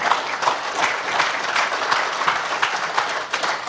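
An audience applauds three speakers, many hands clapping in a dense, continuous patter at a fairly loud, even level throughout, with no voices rising above it.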